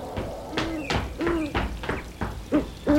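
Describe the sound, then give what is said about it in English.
A night bird that sleeps in the daytime and flies at night gives several short, low hooting calls, fairly loud, with a series of dull knocking taps happening between and under them. “Is that a bird? Yes, it is. This is a bird. This bird doesn't sleep at night.”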